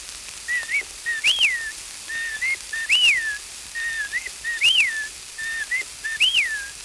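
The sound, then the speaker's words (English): A person whistles an imitation of English whippoorwill birdsong, repeating a rising-and-falling three-part phrase four times at a steady pace, clear with no talking. “… by …. ….”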